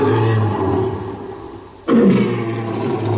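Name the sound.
lion roaring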